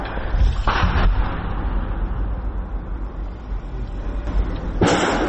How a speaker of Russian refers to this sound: Снаружи бліндажа – перестрілка.